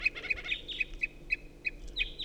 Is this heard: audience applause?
no